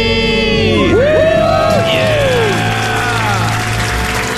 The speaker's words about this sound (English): Crowd goes wild.